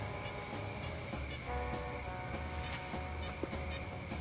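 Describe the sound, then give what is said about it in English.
A train rolls steadily along the rails, a constant low rumble and metallic hum broken by faint regular clicks of wheels over track joints, with no voices; the last train out of Union Station in Chicago, headed for Detroit. “You see, I picked up a last-minute gig in Detroit and, I headed on down to Union Station on Canal and got me a seat on the last train out.”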